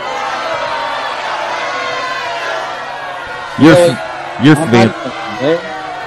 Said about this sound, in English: They're booing. What? It's like I'm not even there and they're booing me?